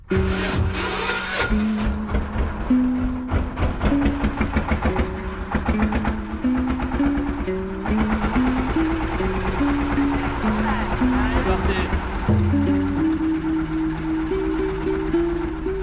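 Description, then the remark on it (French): A small petrol-powered boat motor runs steadily on a boat in Ha Long Bay among rocky peaks, its continuous mechanical drone and shifting tonal hum filling the whole stretch without a break. “Que ce soit les petits moteurs comme sur mon bateau ou les gros pour les croisières, pour l'instant, ça fonctionne à l'essence.”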